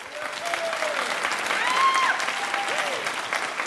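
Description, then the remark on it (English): Steady applause from an audience as Republicans in the audience clap to show they are present: dense clapping that holds at an even level for several seconds, with a few faint cheers and whistles rising above it. “Now, by your applause, let me know if you are a Republican joining us tonight.”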